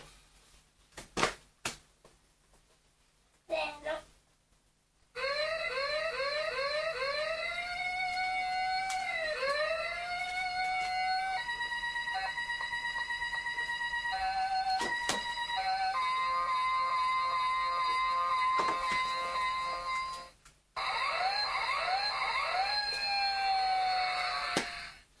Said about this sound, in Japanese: これ見なかった 消防車。